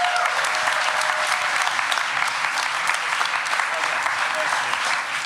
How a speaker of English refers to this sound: All right, please, a round of applause for Only Child by John Hodgman.